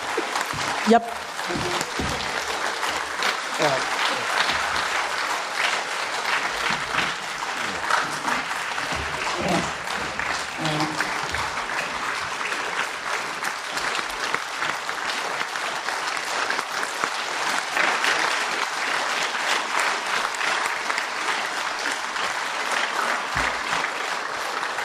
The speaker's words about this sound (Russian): Но я же не могу второй раз выйти на сцену, я уже на ней, так что можно не хлопать уже.